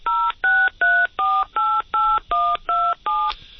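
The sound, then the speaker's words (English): A quick, steady series of nine touch-tone keypad beeps as a phone number is dialed, each a clear two-tone chirp of varying pitch, dialed evenly with brief gaps between them and no voices. “And it's dialed the number.”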